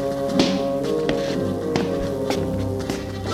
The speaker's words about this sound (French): On n'entend des pas dans l'allée. On a sonné, puis des pas. Il y a quelqu'un ? Des pas dans le couloir.